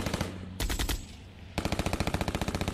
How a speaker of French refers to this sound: À peine les 2 véhicules se sont enfoncés dans la forêt de Moyembe, à quelques encablures de la frontière, que des membres armés du FLEC, le Front de Libération de l'Enclave de Cabinda, ouvrent le feu sur eux.